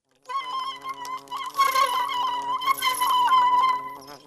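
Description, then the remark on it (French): Bees buzz steadily, a dense droning hum that wavers and swells in intensity for several seconds, with no voices present. “En entendant cela, les abeilles délibérèrent pour décider de ce qu'il fallait faire. On entendit ceci.”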